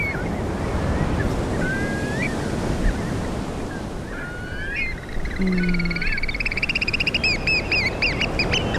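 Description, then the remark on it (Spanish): Loud, shrill piping calls from an oystercatcher on the beach at Carnota, A Coruña, Spain, at a river mouth, scattered at first, then building into a rapid repeated series, over the steady roar of surf and wind. “Y este es un ostrero.”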